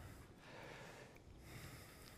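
A soft, hissing ujjayi breath drawn through a narrowed throat during a yoga class in half pigeon pose, steady and airy like a distant ocean, quiet, continuing for about two seconds with no talking.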